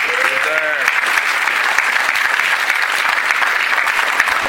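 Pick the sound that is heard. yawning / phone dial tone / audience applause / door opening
audience applause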